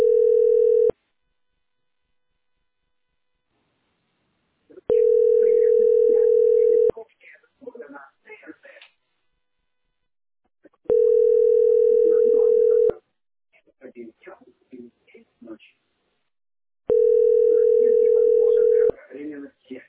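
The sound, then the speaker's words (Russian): A steady, mid-pitched telephone tone sounds in loud bursts of about two seconds, repeating roughly every six seconds, with quieter talking filling the gaps between them. “Гудок.”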